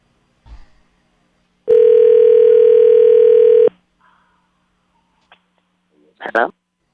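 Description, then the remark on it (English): A loud telephone dial tone hums steadily for about two seconds while calling a man back, then cuts off abruptly, with brief faint noises before it and a short vocal burst shortly after. “Let me call him back.”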